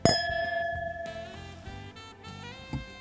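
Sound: wine glasses clinking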